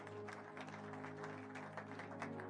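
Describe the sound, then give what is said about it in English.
A crowd claps hands in a dense, steady patter throughout, heard against sustained musical tones underneath, with no one speaking. “You needed to clap your hands. You better do that quickly.”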